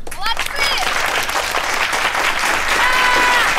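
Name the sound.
ovation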